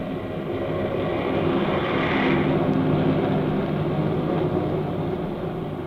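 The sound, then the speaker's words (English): A steady, loud drone of a fleet of propeller airplanes flying far overhead in battle formation above a monument dedication ceremony, a dense layered engine rumble holding constant throughout with no voices. “Far overhead, a fleet of airplanes soars in battle formation, a jagged spearhead against the fleecy clouds.”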